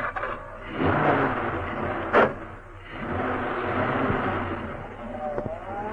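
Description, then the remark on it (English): A car engine is started with an ignition key and settles into a steady rumble, with a sharp thud partway through, then revs and rises as the car, with two men inside, pulls away, moderately loud. “the two men climbed into the car. I hope that ignition key of yours works, Pike. Of course it works.”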